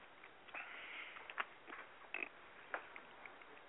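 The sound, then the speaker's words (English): A few short, rough coughs burst out at uneven intervals, fairly quiet and muffled, with no talking in between. “Sorry, I've got a little bit of a cough here.”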